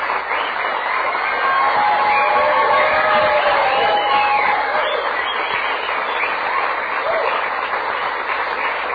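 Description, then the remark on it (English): Sustained audience applause with steady, dense clapping for about nine seconds, joined by some cheering and whistling above the noise. “Now, you're not going to get paid no matter how much you clap.”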